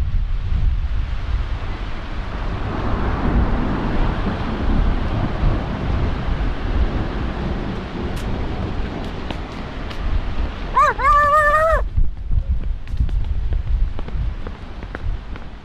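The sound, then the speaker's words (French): Steady rain hisses throughout a thunderstorm on a Tuesday evening in December around 6 p.m., with a deep rumbling thunder-like roar underneath. Near the end a brief, wavering high-pitched whine cuts through. No one speaks. “Il se met à pleuvoir. Et il y a de l'orage.”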